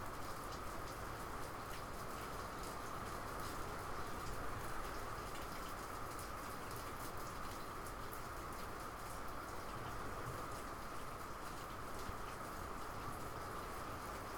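Steady rain pours down in a dense, even hiss, with water dripping and pattering onto surfaces throughout. No one speaks, and the downpour stays constant from start to finish.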